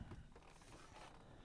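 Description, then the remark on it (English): A car door opens with a brief mechanical creak and latch clunk, with a low rumble underneath and no voices. “It's too hot in this car. We're going to open the door.”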